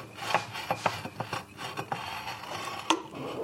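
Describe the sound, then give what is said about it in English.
Crystal glass being cut by hand against a wet spinning stone, with water trickling onto the stone to keep it from overheating and the glass slowly turned and pressed along drawn guidelines, heard as a run of gritty rasping strokes in an uneven rhythm, with one sharper, brighter scrape near the end and no voices. “I've got to press the glass to the stone exactly along the guidelines.”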